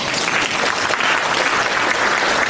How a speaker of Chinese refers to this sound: 鼓掌